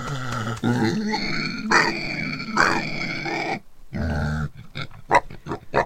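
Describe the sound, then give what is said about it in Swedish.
Pigs on a farm grunt and snort in a steady series of rough, nasal calls, ending with a quicker run of short, clipped grunts. “Hallå, grisarna! Ja, grisar! Alltså, vi är verkligen på en bondgård.”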